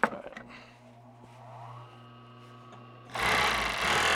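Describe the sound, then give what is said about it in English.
An old sewing machine stitching a scarf from red coyote skin runs steadily, its mechanical whir and clatter holding for a few seconds before surging into a louder, rougher rattle as stitching speeds up. “Today, Michael sits at an old sewing machine. He's making a scarf.”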